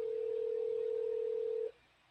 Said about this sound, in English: You know, let me give him a call here.